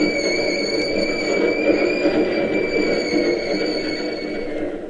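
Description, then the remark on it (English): An electric interurban Key System train comes down the ramp from the Bay Bridge, rumbling steadily past, its wheels roaring beneath a high, sustained motor whine, easing off slightly at the end as it rolls into the terminal. “Sure, one of the key system trains. It's going into the terminal.”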